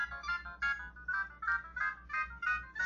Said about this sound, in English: People think that that ringtone is pretty funny. I kind of like it. It's one of the default standard sort of ringtones on the Nokia cell phone. El Cheapo Nokia.